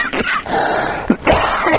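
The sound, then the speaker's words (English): A person coughs and clears their throat several times in quick succession, rough bursts with brief gaps between them and no talking. “I'm going to have to pause and get a drink and cough.”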